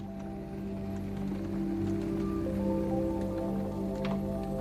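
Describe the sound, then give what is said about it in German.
Water heats in a kettle on a stove, bubbling and popping in quick, irregular bursts over a steady low metallic hum as the metal vibrates slightly, holding at an even level throughout. “Das Blubbern des Wassers drang an sein Ohr, während das Metall leicht vibrierte.”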